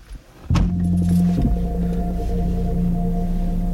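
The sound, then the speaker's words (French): A priest's car engine turns over with a sudden burst, then settles into a steady low rumble heard from inside the vehicle as he drives between the communes of his parish, humming evenly with no one talking. “Et dans cet épisode, il est évidemment question de la préparation de Noël et des kilomètres que le prêtre avale en voiture chaque semaine.”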